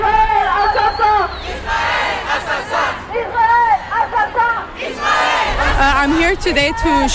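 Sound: protest crowd shouting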